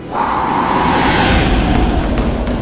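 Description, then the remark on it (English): A strong, steady whoosh of rushing air starts abruptly and roars on without pause, loud and powerful, as a wolf blows as hard as he can at a grass house. “The wolf says, "I can blow your house down." Then he blows as hard as he can.”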